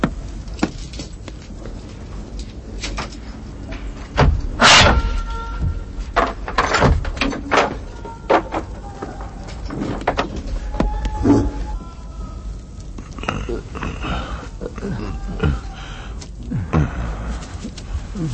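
A heavy door, opened to where prisoners are held, creaks and grinds open with a series of loud knocks and scrapes, followed by clattering and rattling movement, all without any voices.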